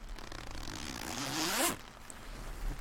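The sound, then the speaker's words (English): A sleeping bag zipper is pulled open in one long rasping stroke that rises in pitch and ends sharply, followed by quiet rustling, as it is unzipped to let a second person in. “Well, come on, unzip and let me in.”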